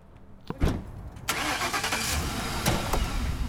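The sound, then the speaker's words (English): After a brief quiet moment and a click, a car engine cranks and catches, then settles into a loud, steady roar as the vehicle runs and pulls away, driving to a home in the Bayview district. “We drive over to the woman's home in the Bayview district”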